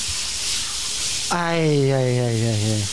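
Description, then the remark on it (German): A steady, broad hiss of cold shower water runs alone for about a second, then a voice lets out a long, slowly falling sigh while the water keeps spraying underneath. “Sie sind jetzt echt unter der Dusche, ach, so schönes, kaltes, kurz mal an die Backe noch.”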